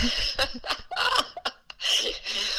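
A person with a cold, who has been outside smoking in the cold air, coughs: a run of short, harsh coughs in uneven bursts, some clipped and quick, ending in a longer, rougher stretch of coughing and breathy hacking.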